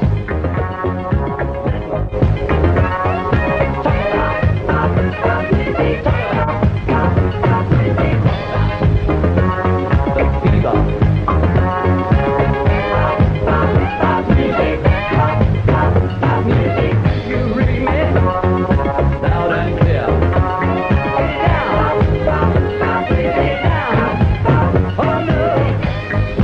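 A pop song plays loudly and continuously on Sunshine radio, South Shropshire, on a Saturday afternoon, with a steady driving beat under layered melodic instruments and a strong low end; no one talks over it.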